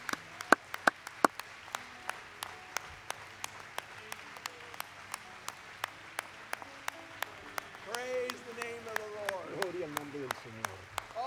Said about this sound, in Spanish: Vamos a darle un aplauso a él en esta noche. Gloria al Señor.